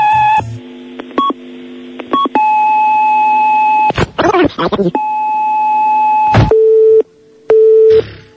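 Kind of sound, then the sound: signal or alarm, answering machine beep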